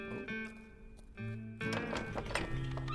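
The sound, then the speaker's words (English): Horse hooves clip-clop in a steady run of sharp strikes, growing louder and busier in the second half, over a sustained tonal hum in the background. “Plenty of room for the horses.”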